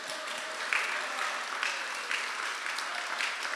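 A round of applause from a crowd at a festival worship service, a dense, steady wash of many hands clapping at an even level with no voices over it.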